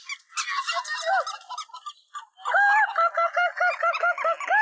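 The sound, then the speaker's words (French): A voice imitates a hen in a farmyard courtyard beside a hen, making rapid, warbling clucks: a first burst, a brief pause, then a louder, steadier run of clucking that carries on to the end. “Tu fais bien la poule, …, tu sais.”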